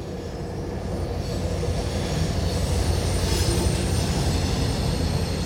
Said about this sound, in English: It's a passenger train, and it's northbound. And that's all I need.